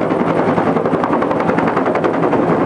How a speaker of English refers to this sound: They dip this big bucket that's connected to the helicopter, bring up the water, and they're shuttling it, you know, sometimes miles away to drop.